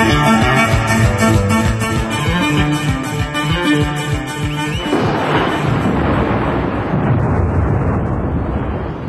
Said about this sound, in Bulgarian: А, само дъжд липсваше. И каквито тъмни облаци за една две сили. Но това си е просто порой.